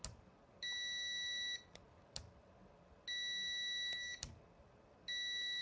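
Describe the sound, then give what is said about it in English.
A multimeter's continuity buzzer, slow to respond about a second or second and a half after the probes touch, gives three steady, high-pitched electronic tones of about a second each, separated by short gaps with sharp clicks of probes tapping contacts in between. “I mean, it's a noticeable second or second and a half before it decides it wants to beep.”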